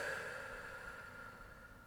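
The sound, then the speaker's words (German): A long, deep breath out during a guided breathing exercise, soft and airy, slowly fading over about two seconds with no voices around it. “Und wieder aus.”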